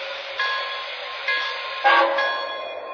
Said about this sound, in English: Welcome aboard. Now departing for Chicago on track 1, train number 25, the 20th Century Limited. Welcome aboard.